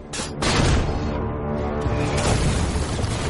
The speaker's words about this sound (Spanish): Conner indica disparo tras disparo, ajustando las coordenadas sobre la marcha. ¡Fuego!